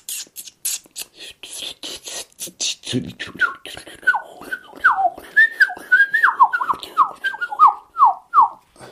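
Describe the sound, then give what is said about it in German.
A person whistles an imitation of blackcap song: a quick scratchy chattering opening, then a run of loud, clear fluting notes rising and falling in a rhythmic phrase. “Also die Grasmücke, die Mönchsgrasmücke, die fängt an mit so einem.”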